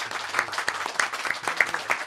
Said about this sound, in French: Merci beaucoup. Je crois qu'on peut applaudir nos invités qui étaient...